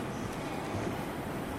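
Steady, continuous rumble of a JR East train station platform, platform 11, for the 16:21 local train bound for Ito, with four doors and 15 cars; a broad wash of low mechanical noise and rail sounds that holds even throughout, with no voices.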